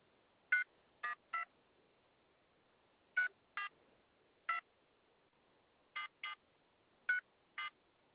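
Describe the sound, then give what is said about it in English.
A series of short, crisp phone keypad tones as a phone number is dialed, about eleven beeps pressed in uneven bursts of one to three, clear against an otherwise quiet background with no talking. “Man, come on, phone.”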